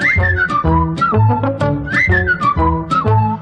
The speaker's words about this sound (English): Whistle along, join in the song.